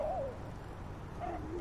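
A bird coos softly in the background, one call at the start and another after a short pause, set against a steady low rumble of ambient noise.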